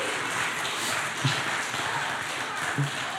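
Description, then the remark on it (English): Steady applause from an audience for the kids after a question game, a dense wash of clapping that holds for the whole stretch, with two brief dull thumps rising out of it along the way. “So let's give the kids a round of applause.”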